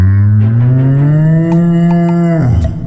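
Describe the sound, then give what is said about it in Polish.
A cow lets out one long, loud moo, holding a steady low bellow for over two seconds before it drops off. A few faint clicks or knocks sound in the background. “Krzyknęła pierwsza z krów eksportowa.”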